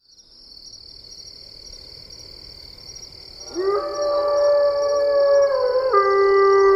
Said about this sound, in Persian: گرگ در بیشه نزدیک روستا زوزه میکشه. روستا آرومه.